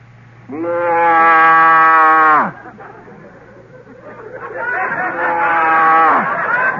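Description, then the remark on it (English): A man's voice imitates a Holstein cow mooing: one long, loud, droning moo, then a softer, wavering second moo after a short pause, with faint background noise between. “Give us the cow.”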